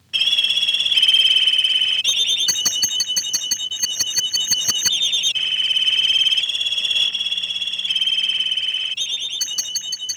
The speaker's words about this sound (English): Of course, if you want to make it sound like 2 canaries singing a duet,